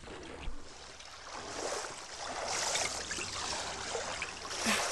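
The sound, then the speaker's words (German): Water laps and trickles steadily around a small boat gliding slowly forward toward a landing place under trees on the shore, a soft continuous wash with occasional splashes, moderately quiet, with no voices. “Aber ich will nicht hier anlegen, sondern dort, unter den Bäumen, wo ich mein Boot gut vor ihnen verstecken kann.”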